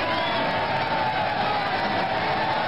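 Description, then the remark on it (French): A dense, continuous roar of a crowd cheering the riders and the stage winner as cyclists arrive on the track at the end of a cycling stage, steady and fairly loud throughout, with a muffled, band-limited quality and a faint steady tone running underneath. “La foule acclame les coureurs et Baffert le vainqueur de l'étape.”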